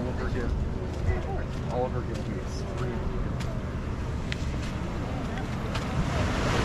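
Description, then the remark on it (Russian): Steady roar of ocean waves washing in at a beach surf spot where surfers wait for and try to catch the waves, with wind buffeting the microphone and a faint voice speaking briefly in the background. “Тут важно занять стратегическую позицию, чтобы волна к тебе шла.”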